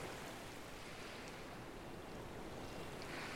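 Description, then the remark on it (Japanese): A steady, continuous wash of ocean surf fills the scene, a broad rushing hiss of waves at the shore with no distinct breaks and no voices. “ちょっとだけだったけど、デートプランの最後、この海に一緒に行きたいって書いてあった。”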